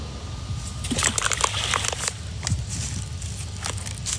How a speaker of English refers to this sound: This is a lady at a nearby creek in the area, and she's showing what happens when you throw a rock into the creek.